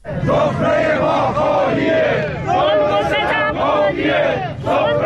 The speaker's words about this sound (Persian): دیروز اینجا بازنشستگان معترض در تهران مقابل مجلس و در شهرهای بزرگ دیگر ایران در تجمعاتی اعتراضی شرکت کردند. اعتراضشان به اجرای ناقص قانون متناسب سازی حقوق است.